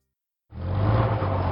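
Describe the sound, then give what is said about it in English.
After a brief silence, a bus engine starts rumbling steadily and loudly with a deep low hum as the bus pulls away in a small suburban neighborhood; no one speaks. “The bus parted from Alejandro as he stepped into his old neighborhood, a small, suburban paradise he once lived in only a few years ago.”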